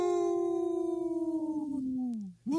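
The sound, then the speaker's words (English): On Native Roots Radio, a person imitates a wolf howl as wolf language for no to the Minnesota wolf hunts: one long, loud, drawn-out tone that slowly slides downward, then breaks off and briefly swoops up again at the end. “That's wolf language for no.”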